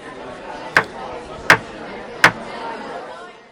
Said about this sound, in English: Every year, at noon on the second Wednesday of January, the convening gavels sound at the Virginia General Assembly, calling to order 100 members of the House of Delegates and 40 members of the State Senate.